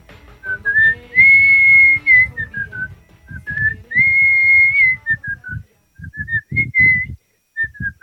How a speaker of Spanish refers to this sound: Les voy a dejar una de mis canciones, un pedacito, un fragmento silbado.